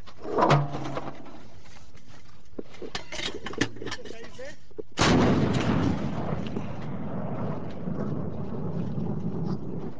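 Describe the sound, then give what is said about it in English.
Metallic clanks and handling noises as a team of alliance soldiers loads a Russian-made cannon in Farkhar Valley, northern Afghanistan, then one loud blast about halfway through as the shell flies toward a target miles away, followed by a long rolling rumble, with voices faintly audible. “A team of alliance soldiers loads and fires a Russian-made cannon.”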